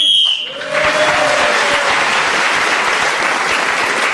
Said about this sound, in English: … was again speaking as the whistle went, gained that extra point.